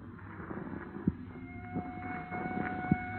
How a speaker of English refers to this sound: What is there about police drivers? Even out in the country, they got to lay on those sirens.